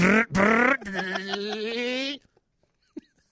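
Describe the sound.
A voice imitates a toy car engine with a loud, buzzing vroom that revs briefly, then holds a steady droning tone for about two seconds before cutting off into near silence.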